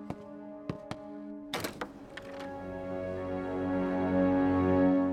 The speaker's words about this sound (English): They could hear Dr. Knox's footsteps approaching.